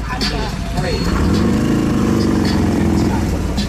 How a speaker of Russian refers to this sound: Давай покажем сейчас нашим зрителям мотоциклы.